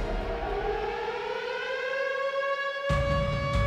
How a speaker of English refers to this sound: 3 minutes later, still unable to identify the blips, they went to red alert. Lights went out from Los Angeles all the way south to the Mexican border. Radio hosts cut their broadcasts. Sirens blared.